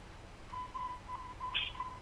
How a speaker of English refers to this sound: What's the beeping sound? What is that beeping in the background? Is that a robot? It's taping everything.